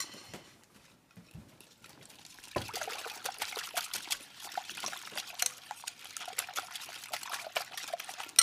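Water pours and trickles steadily into a bowl of beaten eggs for several seconds after a quiet start, a splashy liquid stream with small clinks, and no one talking.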